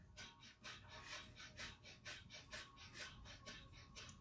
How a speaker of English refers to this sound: Just do these breathing techniques first and then have your cup of coffee, because breath of fire is like giving us a natural speed. So it's rapid breathing in and out through the nostrils like this.